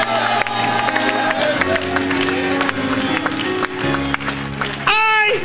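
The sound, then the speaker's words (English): A large audience claps and cheers loudly and continuously for several seconds as a clap offering to the Lord, with whoops rising above the crowd and sustained instrumental tones underneath. “Give the Lord a clap offering.”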